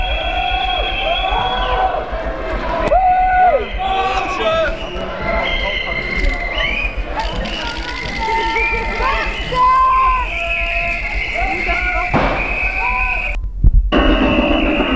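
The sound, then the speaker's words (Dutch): A large protest march crowd moves along outdoors through a city, a steady wash of overlapping voices with footsteps, scattered shouts and whistles rising above the din, loud throughout. “Nou, de demo loopt weer verder.”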